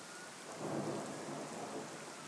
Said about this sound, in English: And it's raining. Huh. You can hear the thunder.